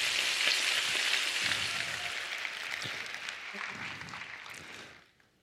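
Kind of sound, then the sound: food or drink, bacon sizzling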